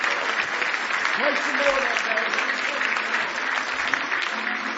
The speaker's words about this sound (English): You love the Lord tonight? Give Him one more big hand clap of praise if you love Him.